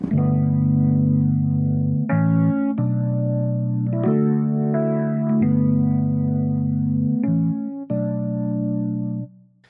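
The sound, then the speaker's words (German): A sustained electric instrument run through a ping-pong delay and reverb plays a slow sequence of held chords, each change sharp and clear, with only a light wash of reverb trailing behind rather than a heavy hall. “Ein bisschen weniger soll es nicht ersaufen im Hall.”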